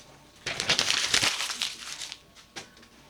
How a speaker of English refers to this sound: How do you like that? All of a sudden my fucking printer works. After not working for like a year.